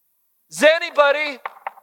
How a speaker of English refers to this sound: I'm standing outside. I'm knocking. Hey, would you guys let me in?